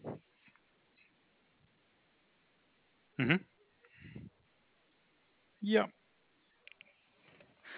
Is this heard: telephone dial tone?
no